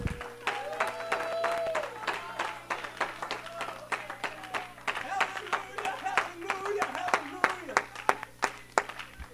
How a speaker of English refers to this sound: Come on, I wish you wouldn't give him an applaud, but I wish you would clap your hands unto God. Amen, with everything you have.